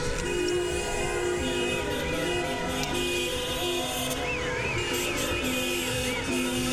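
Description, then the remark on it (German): Horns of several different car models honk over a dense, steady street din as cars drive back and forth in a circle on a cordoned-off stretch of about 12 metres, sustained blasts overlapping and repeating at different pitches, fairly loud, with no one speaking. “Also wer es schafft, anhand der Frequenz die verschiedenen Automodelle zu erkennen, die hier hupen, der gewinnt was.”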